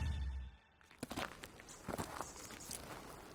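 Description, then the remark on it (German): Footsteps of a man, Sir William Rowan Hamilton, on one of his regular walks to work toward Dublin city centre: a series of soft, regular thuds at a steady pace, starting after a brief low rumble and quiet moment, with no voices. “Hamilton legt die vollgekritzelten Papiere weg und macht sich auf einen seiner regelmäßigen Spaziergänge zur Arbeit. Man muss wissen, er geht täglich zu Fuß.”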